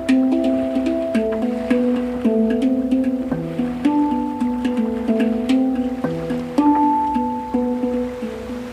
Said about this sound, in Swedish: Det händer att jag somnar in till hangdrummens spel och de mjuka dyningarna.